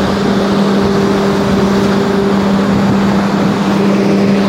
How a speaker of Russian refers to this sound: Так, вот тут еще один вентилятор шумит.